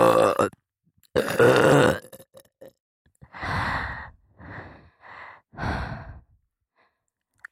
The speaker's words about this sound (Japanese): 耳舐めしながらゲップしてるだけなのに。